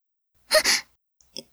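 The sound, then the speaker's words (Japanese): A single soft, breathy puff of air blown out in a short burst lasting under half a second, followed by a faint brief rustle, with no speech. “今、ふーってしたでしょ。”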